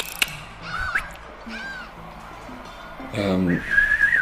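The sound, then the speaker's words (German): Harsh, raspy bird calls mixed with short rising whistles and a sharp click, several calls in quick succession, moderately loud against a faint background murmur; clicks and whistles made by macaws (Ara) to communicate quickly with each other during a fight. “Schnalzlaute und Pfeifen ertönen über den Kampf, Geräusche, die Ara von sich geben, um schnell miteinander zu kommunizieren.”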